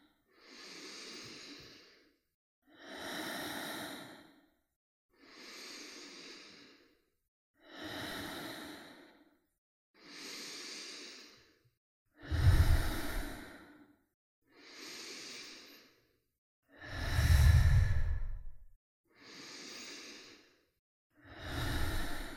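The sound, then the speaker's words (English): Slow, deep breaths alternate in and out in a circular breathing exercise, about ten airy breath sounds in a steady rhythm, fairly loud, with a couple of heavier, rougher exhales. “Inhale, exhale, inhale, exhale, inhale, exhale.”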